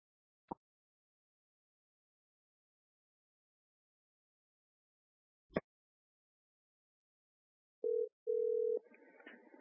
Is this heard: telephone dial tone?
yes